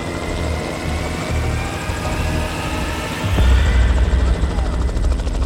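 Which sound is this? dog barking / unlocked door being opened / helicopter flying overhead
helicopter flying overhead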